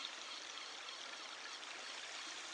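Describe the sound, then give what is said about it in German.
A steady, continuous rush of sea waves, broad and hissing with no pauses, with no voices present. “Das Rauschen der Wellen, der Fahrtwind im Gesicht und rings um dich herum”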